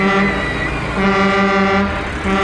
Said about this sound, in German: Los, drück mal auf die Hupe. Aber Stufe 1. Na, du mach schon!